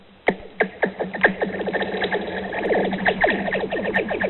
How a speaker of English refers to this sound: That's the sound of rocks thrown on the ice of a frozen Minnesota lake